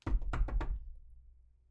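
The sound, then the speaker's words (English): Someone pounds hard on a closed door, a quick burst of four or five heavy, booming thuds, then a low rumble fading into silence. “Open this goddamn door. I'm done being nice.”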